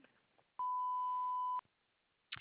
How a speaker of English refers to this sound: Please leave a message at the beep.